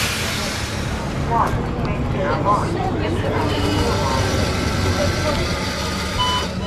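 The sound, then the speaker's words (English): A steady low rumble of a city bus engine fills the bus interior, with indistinct chatter from passengers and a few faint high electronic beeps near the end. “People tend to keep to themselves on the streets, but on the bus, everybody comes together.”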